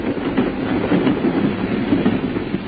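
A train rumbles steadily through a tube station, its wheels clattering in a fast, regular clickety-clack over a deep, loud roar that holds for the whole stretch with no voices.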